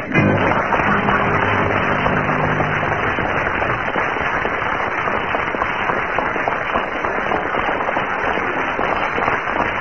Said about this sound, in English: Well, with 7 seconds of spontaneous applause from the audience there, Tim and Willie have scored quite a lot of points.